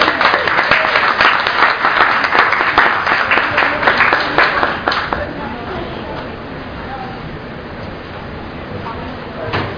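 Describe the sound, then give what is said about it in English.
A crowd claps loudly with dense, rapid hand claps for about five seconds, then the applause thins and fades to a quieter murmur of scattered claps and voices. “So students should press the come on up and applaud to strategic planning priority one.”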